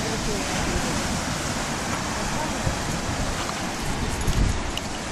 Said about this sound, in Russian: Ветер хороший. Вот здесь ветер. Вот тут надо микрофоны тестировать, друзья.